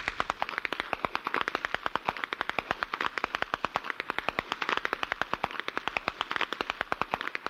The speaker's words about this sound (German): Wie Kanonendonner hallt es weit über die verschneiten Wiesen, wenn die Apperschnalzer gegeneinander antreten.